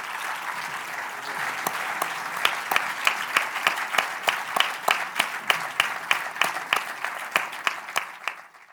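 A crowd applauds steadily for several seconds, a dense wash of clapping that soon takes on a rhythmic beat of sharper, evenly spaced claps. No one speaks over it.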